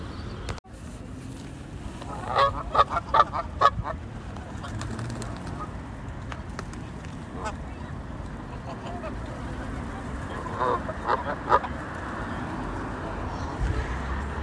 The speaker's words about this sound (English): That noise you're going to hear are the Canada geese on the Princess of Wales Pond in Blackheath. have just walked from the last pond to here. There are many of them here, and they are not a native species to the UK